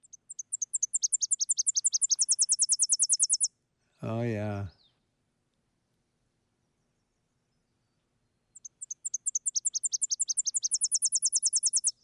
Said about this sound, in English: And that last, a very accented part of the song always catches my ear. And the birds, for the most part, don't even nest in Wisconsin. It's a migrant going up to Canada. Let's hear the Tennessee warbler.